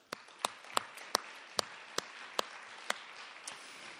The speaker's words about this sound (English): So a big round of applause to them.